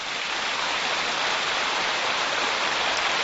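A crowd claps steadily, a dense, even wash of many hands that holds at the same loudness for a few seconds, with no voices breaking through.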